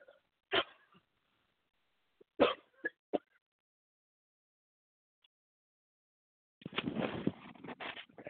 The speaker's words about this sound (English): I feel that I want to cough. Excuse me, Chief.